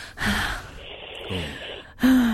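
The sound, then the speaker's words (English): Exaggerated heavy breathing, performed as an audition for a prank heavy-breathing phone call: a few loud, drawn-out breaths with gasping, raspy edges and brief voiced groans, rising and falling in a slow uneven rhythm with no talking. “We're going to do a heavy breathing phone call.”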